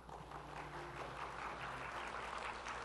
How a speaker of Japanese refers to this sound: そしてありがとうございます。やっぱり拍手だけと嬉しいですよね